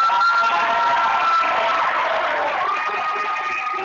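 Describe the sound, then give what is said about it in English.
A large crowd of students at St. Patrick Catholic Secondary School cheers and applauds at once to welcome former NBA player Will Njoku, a dense, loud roar of shouts and clapping that stays steady for several seconds with bright whoops rising above it. “Let's give him a big welcome to our city.”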